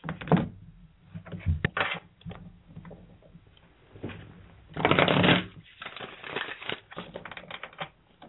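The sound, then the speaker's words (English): A deck of tarot cards being shuffled, with several crisp riffling bursts and one longer, louder flurry midway, separated by soft handling sounds and no talking. “Shuffling.”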